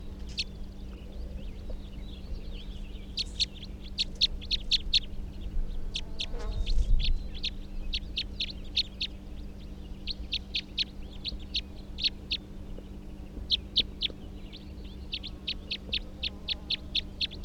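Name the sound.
type 3 bird call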